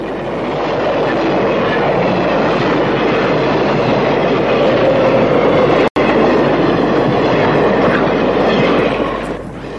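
A train rumbles steadily along the tracks with a continuous loud clatter of wheels on rails, broken once by a brief sharp click near the middle before fading slightly at the end.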